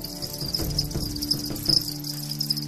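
Crickets chirp steadily in a high, shrill trill, with a few brighter pulses standing out over a low background rumble, no voices.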